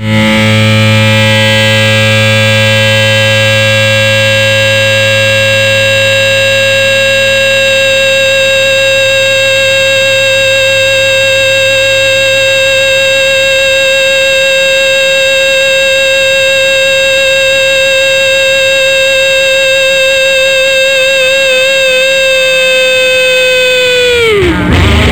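A loud, distorted emergency broadcast test tone drones steadily for about twenty-five seconds, harsh and buzzy with dense overtones, before its pitch sags and it abruptly cuts out.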